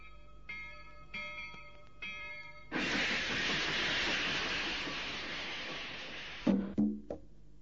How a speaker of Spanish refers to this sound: Mientras escuchábamos la campana del tren... No, qué efecto que metieron al principio del tema. Impresionante, era la época que empezaron a aparecer los efectos.